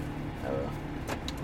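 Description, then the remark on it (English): A man opens a car door with a quick mechanical click and clunk to get out and take a picture of a sign, over a steady low vehicle hum, with a faint voice murmuring briefly beforehand. “He got the door open.”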